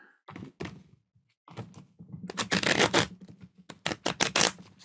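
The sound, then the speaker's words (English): A deck of cards being handled and shuffled during a card reading: a few soft taps, then bursts of crisp, rapid riffling and flicking in quick succession, with no voices. “Let me see if I can shuffle it up again a little bit.”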